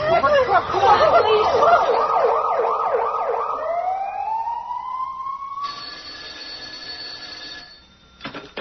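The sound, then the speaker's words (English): A loud ambulance siren warbles rapidly, then shifts into a long rising wail that settles into steady high tones before cutting off near the end. No one speaks. “Call the ambulance.”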